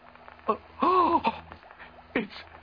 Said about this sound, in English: It's breathing. Yes. It's alive.